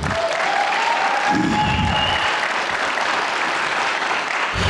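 Steady audience applause, a dense wash of many hands clapping at a consistent loud level for several seconds, with faint crowd murmur mixed in and no speech over it.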